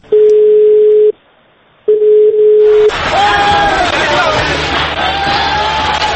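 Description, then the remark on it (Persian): Two steady electronic beep tones give way to a loud, dense protest crowd shouting and chanting slogans amid smoke and fire in Tehran, filmed on a mobile phone, with sustained car horns blaring through the noise for the last few seconds. “در میان فریاد و شعار، بوهای ممتد و نفسهای بریده بریده و از میان دود و آتشی که دیگر برای تهران آشناست، لنز کوچک موبایل تصویری بزرگ را ثبت می کند.”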